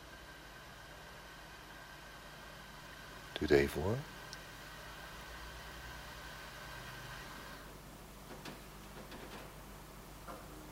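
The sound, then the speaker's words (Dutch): Pipe organ bellows being closed with a key after the organ is switched off: one heavy, brief thud and a short creaking slide, against a steady low hum and background noise. A voice speaks briefly beforehand. “Dan moet ik eventjes, dan moet ik eventjes de boel uitzetten, want ik heb die sleutel namelijk dan nodig. En die gaat de balg dicht.”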